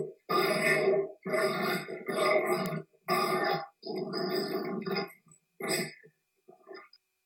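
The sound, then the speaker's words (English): Adopted dogs grunt and snort in a string of rough, throaty bursts, several long noisy grunts followed by a few shorter, fainter snorts trailing off, with no talking. “Adopting dogs is one of the best decisions I've ever made. Listen to these clowns.”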